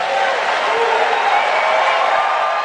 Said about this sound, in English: But Trump's rant overshadowed moments like this, when Bobby Jindal got a roaring standing ovation when he criticized the mainstream media.